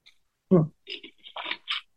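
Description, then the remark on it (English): A sip of water: a soft low thump, then a few short, wet mouth and swallowing noises in quick succession, fairly quiet, with no one talking. “Just taking a sip of water.”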